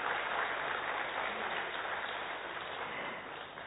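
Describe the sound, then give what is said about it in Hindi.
Steady applause from a crowd at a programme, many hands clapping in a dense, continuous patter that holds level for several seconds before easing slightly at the end, with no voices. “में थाली का और प्रोग्राम में ताली का बड़ा महत्व होता है।”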